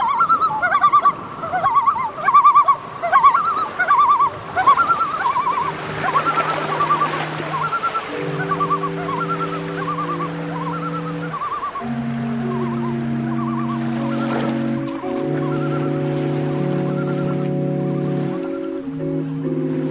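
Birds perched on a structure above a church organ chatter and call busily over sustained organ chords, their bright, repeated cries loud at first, then continuing above the steady, layered drone of held organ notes.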